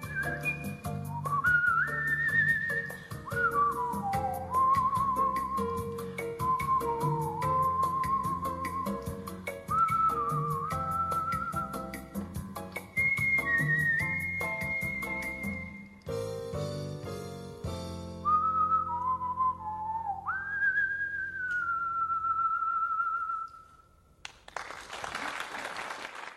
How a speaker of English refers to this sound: Our final word comes from Hollywood legend Lauren Bacall, who was also a whistling coach. You just put your lips together and...